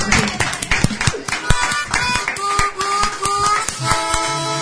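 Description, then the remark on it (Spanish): A crowd applauds with dense, steady clapping that lasts for several seconds, while some voices and a few brief tonal calls rise through the applause. “La verdad, aplausos.”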